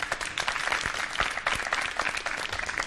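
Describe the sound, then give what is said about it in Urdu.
Steady audience applause welcoming Team B onto the stage during a lemonade-making contest, a dense rush of many hands clapping at a fairly even level throughout, with no voices standing out above it. “Team B سے درخواست کروں گی یہاں تشریف لائیں، ان کے استقبال کے لیے بھی تالیاں ہونی چاہیے.”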